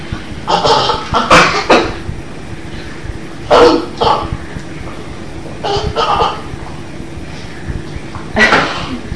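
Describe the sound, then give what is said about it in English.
A child coughs and sputters after getting too much food and milk in the mouth at once, in several harsh bursts: a cluster at the start, then separate fits spaced a couple of seconds apart. “it's all right. You don't need to choke. Choking isn't fun.”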